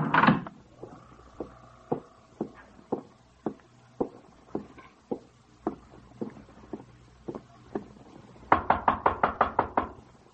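Heavy pounding on a door as people try to get Lomax to open it, a steady series of loud thuds about twice a second, ending in a rapid, harder flurry of blows as they try to break it down. No voices are heard.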